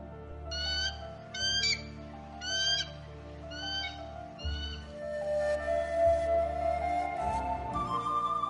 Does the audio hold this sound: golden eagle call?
yes